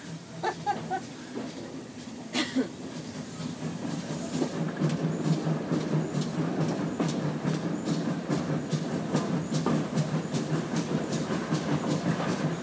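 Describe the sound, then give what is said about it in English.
A steam train leaving Staverton for Totnes gathers speed, its steady rumble building as wheels clack rhythmically over the rail joints, with a few sharp metallic knocks early on. “Train driver's really giving it some beans now.”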